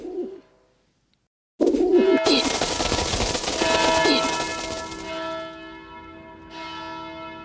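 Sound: church bells tolling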